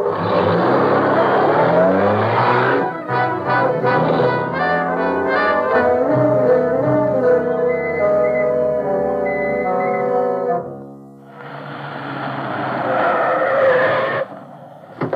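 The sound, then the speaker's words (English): A car engine roars and revs up with a harsh, rising whine, then a long tire skid screeches before a brief pause and another burst of loud engine noise. “There's a car.”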